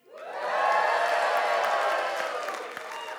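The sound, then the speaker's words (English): A large crowd erupts into loud, sustained cheering and whooping on a count of three to thank a speaker for a talk, swelling quickly and holding for a few seconds, with a few scattered claps mixed into the roar. “So on the count of three, I want to hear a really throaty bellow of, you know, a cheer, okay?”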